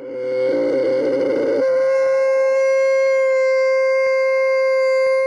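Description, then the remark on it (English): A camel vocalizes loudly, starting with a rough, gurgling bellow that smooths into a long, steady, droning moan with a strong harmonic tone lasting several seconds. “The answer, a camel.”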